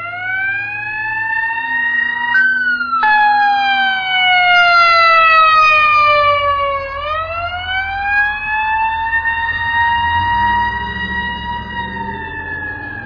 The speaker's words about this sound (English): But someday a siren like that could come for you. Someday a siren like that could come for me.